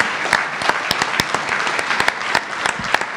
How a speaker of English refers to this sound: A round of applause, please, then, for all of the graduates.